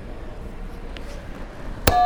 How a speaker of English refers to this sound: All right. We're on to the last section. Can you hit one more buzzer for me?